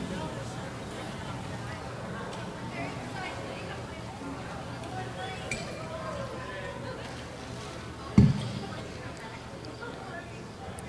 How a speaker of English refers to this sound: So, just in case they're ready, I'm going to go ahead and bring the level up for the house. That way you'll hear the crowds as they come on in.